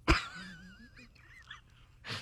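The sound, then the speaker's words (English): A person imitates a goose, letting out a sharp, nasal honk followed by a wavering, squeaky trailing call, then a final breathy burst, fairly loud. “Honk is goose, a word. Yeah, geese speak. They honk.”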